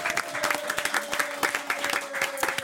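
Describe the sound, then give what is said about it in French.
A small group applauds, with dense, uneven clapping that stays at a steady moderate level throughout, and a faint constant tone humming underneath. “Et là, on applaudit.”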